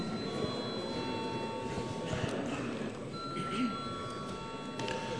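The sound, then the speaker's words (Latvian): The Saeima's electric vote bell rings in a steady, sustained high-pitched tone for several seconds, moderately loud, over a low murmur of people talking. It calls members to vote on a bill amending the law on judicial power in its first reading. “Paldies, lūdzu, zvanu.”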